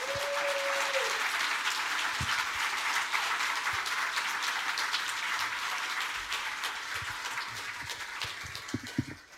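Sustained audience applause given for a person's spectacular work over a few days: a dense, steady wash of many hands clapping at full volume throughout, easing slightly toward the end, with a brief tonal whistle or squeal at the start.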